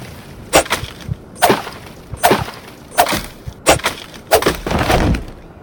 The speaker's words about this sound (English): To slice through an obstacle in front of you, press up. So I'm going to slice the thorn, so up arrow.